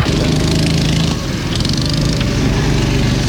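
A small go-kart engine drones loudly and steadily with a buzzy, mower-like tone, its pitch wavering slightly as the kart drives around a course, with no voices.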